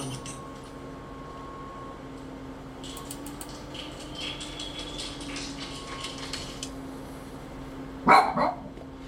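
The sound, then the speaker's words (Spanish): A female dog named Suriña, who likes music, lets out two quick, sharp barks near the end, after several seconds of quiet hum with faint scattered clicks and rustles. “Estou con a miña perra Suriña, que lle gosta a música.”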